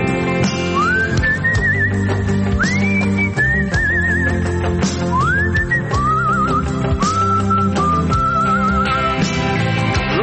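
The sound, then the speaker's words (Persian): A person whistles a lively melody, with swooping rising notes and quick warbles, repeated in short phrases over a steady instrumental music backing. “سوت خوب میزدم من.”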